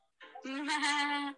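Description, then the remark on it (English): A single drawn-out goat bleat, loud, holding one steady nasal tone for about a second with nothing else around it. “Goats do say meh.”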